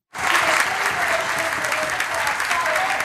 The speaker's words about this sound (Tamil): ஐரோப்பிய விண்வெளி நிறுவனத்தில் இது தொடர்பான உறுதியான தகவல் கிடைத்தவுடன் அங்கு கூடியிருந்த விஞ்ஞானிகளிடமிருந்து கைத்தட்டல்களும் சிலரிடமிருந்து கண்ணீர் நிரம்பிய உணர்ச்சி மிக்க சூழல் நிலவியது.